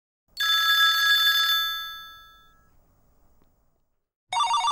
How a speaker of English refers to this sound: Each ringing of the telephone indicates that someone is calling.